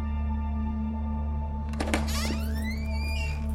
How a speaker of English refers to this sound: Johnson hears a door swing open down the hall.